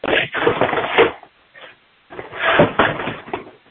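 Someone on an unmuted meeting line shuffling things around, with loud, scraping clatters and knocks like cupboards or objects being handled, in two busy bursts separated by a short quiet gap; no one speaks.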